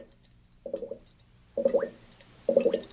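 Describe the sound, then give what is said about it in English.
A 10-gallon batch of red ale fermenting in an airlock, American ale yeast producing carbon dioxide: three bubbly burps of escaping gas, spaced about a second apart, each a short wet gurgle, the later ones a little louder, with no talking. “The regular rhythmic burping giving off by the process of beer fermentation means it's correctly fermenting.”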